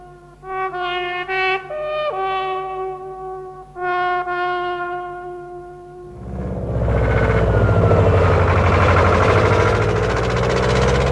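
A steady, horn-like tone rises and steps in pitch for a few seconds, then gives way to the loud, rough roar of a motorcycle engine revving until the end.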